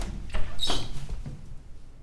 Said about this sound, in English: Open the door.